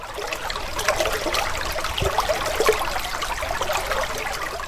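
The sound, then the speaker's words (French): Water spills steadily from the overflow of a fountain's basin, cascading into the pool below; the fountain has many jets of different heights forming a pyramid. A continuous splashing and trickling wash with a faint low rumble in the background. “Le trop-plein de la vasque tombant en cascade dans le bassin.”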